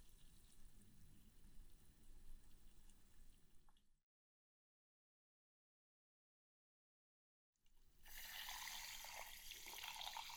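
food or drink, carbonated juice fizzing

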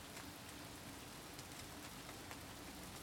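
nature, light rain falling

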